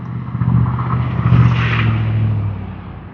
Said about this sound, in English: And trying not to shout over the trucks. School's on back in session. School is back in session. I've been getting buzzed by school buses all the way down West 20th.